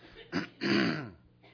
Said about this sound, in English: It's a little hot in here, but I think that's contributed to my cough. I thought I was doing better until I started singing up here.